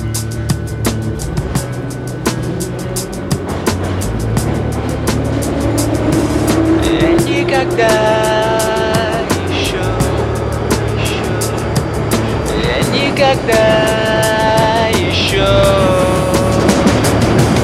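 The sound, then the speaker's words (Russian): A metro train pulls away toward Kantemirovskaya station and runs at speed: a loud, steady rumble with electric motors whining upward in pitch as it accelerates, then repeating the rising whine. “Осторожно, двери закрываются. Следующая станция Кантемировская.”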